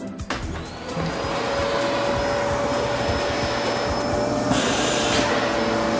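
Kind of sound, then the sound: household object, vacuum cleaner running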